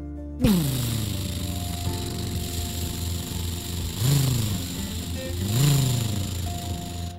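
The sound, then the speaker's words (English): The heavy engine of a purple monster truck speeding up a street over parked cars roars loudly and steadily, then revs up twice in rising surges as if accelerating, with a rough, rumbling growl throughout. “A purple monster truck was speeding up the road, driving on top of, all the cars parked along the sidewalk.”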